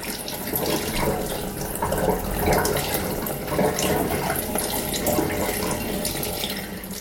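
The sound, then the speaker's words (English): A tap runs steadily for about 30 to 60 seconds, water splashing and gurgling through the bark compost of a potted orchid in a plastic pot, a continuous even rush with small fluctuations and no voices. “And I'm literally going to turn the tap on and start looking at the clock.”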